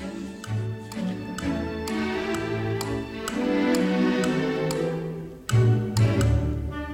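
Steady, evenly spaced clock-like ticks click along over lively orchestral music, loud and up front, with a brief break near the end before the ticking resumes. No one speaks.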